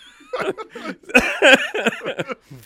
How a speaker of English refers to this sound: Making me cough just talking about it.